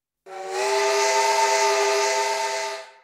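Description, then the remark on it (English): A single sustained steam train whistle, loud, with a breathy hiss layered over its steady harmonic tone, holding for about two and a half seconds before tapering off. “Look at the trains.”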